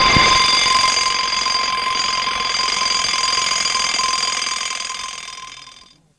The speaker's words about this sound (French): Le réveil a sonné à 7 heures.